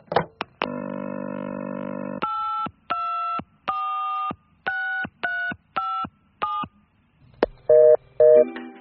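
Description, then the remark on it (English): A phone clicks off the hook into a steady dial tone, then a run of evenly spaced keypad beeps as the number of the Chocky Choc Chocolate Prize Hotline is dialed to find out a prize, followed by two short ringing pulses. “I ate this bar of chocolate and he told me to phone a number to find out my prize.”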